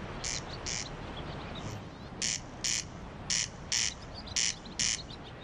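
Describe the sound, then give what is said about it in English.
A swallow twitters in quick, high chirps, about eight short bursts, several in close pairs, standing out clearly over a steady outdoor hiss, with no talking. “And yesterday, a special programme welcoming the swallow.”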